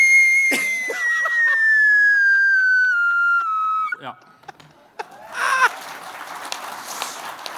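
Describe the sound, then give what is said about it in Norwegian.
A voice imitates a heavy metal scream: one loud, piercing, high-pitched wail held for about three seconds and sliding slowly downward, then a few short clicks and a burst of noisy, breathy sound. “Og så kommer det skrike, vet du? Der. Ja. Si det du, så kan jeg sånn skrike.”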